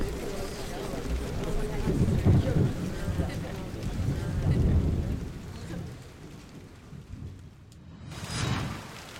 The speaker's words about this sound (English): Ladies, it really seems to be pouring down out there. Please be careful on the road.